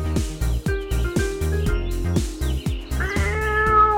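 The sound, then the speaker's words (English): A cat meows over a bouncy, rhythmic musical backing, with a louder, drawn-out meow rising near the end. “Maybe you're a cat. Go and ask the cat.”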